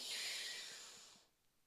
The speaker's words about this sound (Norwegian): Da gjør vi det. Pust godt inn med nesa.